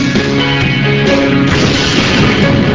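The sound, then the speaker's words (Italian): A loud, sustained explosion roars, its heavy rumble rolling on through the whole moment with steady, dense intensity and no voices: a real explosion set off on a 1:9 scale miniature for the effects of an Italian film. “Questa è una miniatura, 1 a 9 il rapporto, l'esplosione è un'esplosione vera sulla miniatura, e ci sono poi aggiunti dei pezzi in 3D, particles in 3D per l'effetto che arricchiscono l'effetto dell'esplosione.”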